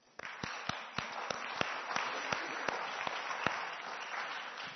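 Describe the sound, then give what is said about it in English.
A crowd claps steadily to thank the people operating the screen, a dense wash of applause with a few sharper claps standing out in an irregular rhythm, holding at moderate loudness throughout. “Should we give them a clap?”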